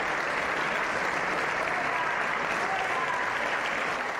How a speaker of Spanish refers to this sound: Oriol Junqueras, Jordi Sánchez, Jordi Turull y Josep Rull eran recibidos con aplausos de sus compañeros de Junts per Catalunya y Esquerra Republicana y gritos aislados de fuera a fuera procedentes de la bancada de Vox.